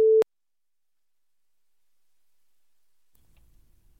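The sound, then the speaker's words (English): A single short censorship bleep, a loud steady mid-pitched tone lasting about a quarter second, followed by near silence with only a faint low rumble toward the end. “That's some grown man bleep.”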